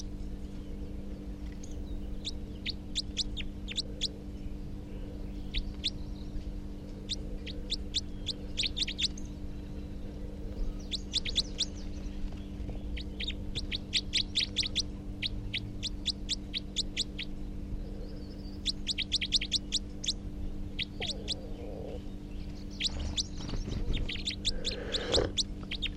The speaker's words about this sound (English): Now it's perched on the approach perch. Stop. So recording the new wild, the second wild male type 4, who's giving rapid type 4 calls. Wild bird.